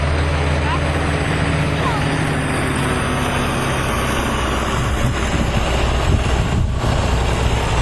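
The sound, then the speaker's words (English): A big bus engine idles at a busy farm with a steady, loud low rumble and droning hum that holds constant from start to finish, with no pauses or revving. “What's this big bus or whatever?”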